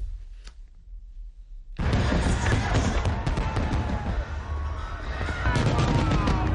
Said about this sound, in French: Rien ne rassemble autant les Américains si ce ne sont pas les feux d'artifice et plus particulièrement en cette date du 4 juillet.